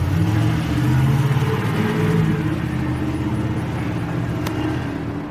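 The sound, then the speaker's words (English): A construction truck marked Don Mud Construction revs its engine hard and roars steadily as it speeds off in a hurry from the side of a house, the loud low rumble fading slightly toward the end, with no voices. “Then, all of a sudden, the truck speeds off in a hurry.”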